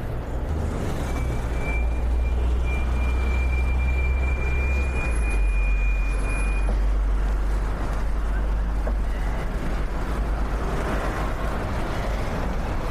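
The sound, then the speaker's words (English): A tiny green bus in London pulls up, its engine rumbling low and steady with a thin whine rising over the first few seconds, then idling on in a continuous drone. “Oh, tiny green bus.”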